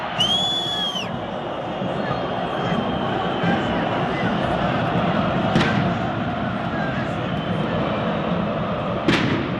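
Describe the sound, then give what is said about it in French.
A dense crowd of 30,000 at the Moscow derby between CSKA and Spartak chants and roars continuously, with the ultras behind the home goal, on a sunny 20-degree day. After a brief shrill whistling at the start, two loud, sharp bangs from big firecrackers burst out several seconds apart over the din. “Derrière la cage du gardien de but local Igor Akinfeyev, le cop des ultras se déchaîne. Chants, gros pétards, fumigènes rouges et bleus, l'arsenal complet pour une véritable animation son et lumière.”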